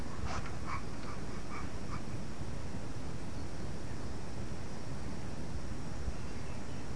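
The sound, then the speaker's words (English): A dog whimpers in a few short, high whines during the first two seconds, then only a steady hiss of background noise continues. No one speaks. “Did the doggy bite? Did the doggy give you a flea?”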